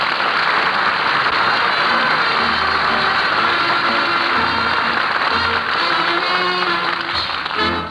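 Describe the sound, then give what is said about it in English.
A studio audience applauds steadily for several seconds as Bob Burns is introduced, a dense, loud wash of clapping with no talking over it, holding an even level before tapering slightly at the very end. “Maybe we ought to have applause over where I work.”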